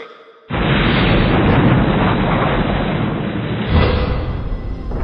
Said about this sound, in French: Vous avez vu ça? Des explosions! Oh non, on n'a pas réussi à percer leur bouclier! Négatif! Le bouclier est toujours actif! C'est comme s'il explosait de l'intérieur! Que tout le monde s'éloigne de la station!